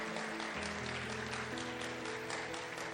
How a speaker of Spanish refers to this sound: Denle un fuerte aplauso al Maestro si usted está aquí ahora.